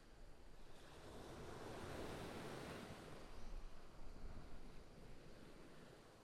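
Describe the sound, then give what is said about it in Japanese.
Waves break steadily on a beach in a broad, rushing wash of surf that swells and recedes, with a cold wind buffeting the microphone and no voices. “浜辺ですが、車椅子ではここから先は難しそうですね。”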